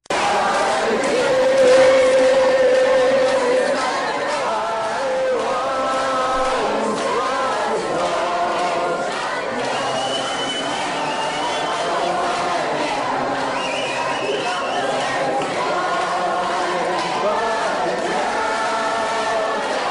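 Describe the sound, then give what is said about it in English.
A crowd of abortion supporters chants together, the words blurred and hard to make out, reportedly hailing Satan, holding a steady, fairly loud level for the whole stretch with overlapping shouts rising above it. “But you hear some chanting.”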